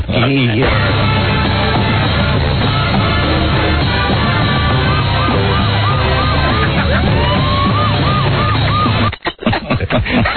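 A golf cart siren wails in repeated rising and falling sweeps partway through as a man makes a big entrance in the cart, sounding over a loud, dense wash of band music and crowd noise that cuts off near the end.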